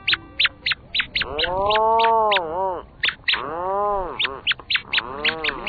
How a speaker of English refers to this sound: What are those curious sounds? They're the calls of a small gray seabird, a rhinoceros auklet with its chick, deep in a burrow on Washington State's Protection Island. They were recorded during the small hours of a summer night.